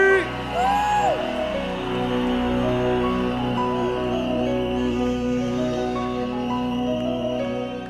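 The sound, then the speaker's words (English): A large crowd cheers loudly and continuously as a singer is introduced, with high whoops and shouts rising above the roar, especially near the start, holding a steady, full level throughout. “Please make welcome a man that is fearless.”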